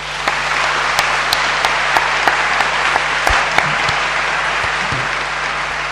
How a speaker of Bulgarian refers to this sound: Нека да й благодарим с нашите аплодисменти.